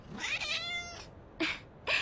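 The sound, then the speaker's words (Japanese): A cat meows with one drawn-out, wavering cry, followed by two short, sharp mews. It sounds fairly quiet, with no voices alongside it. “本当に可愛い猫ちゃんですわね。”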